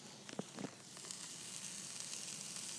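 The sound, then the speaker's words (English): Steady, bright sizzling of steak frying in a hot pan, a dense crackling hiss with a few sharper pops near the start, fairly loud throughout. “There's the steak sizzle.”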